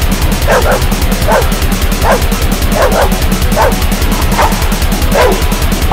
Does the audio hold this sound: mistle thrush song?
no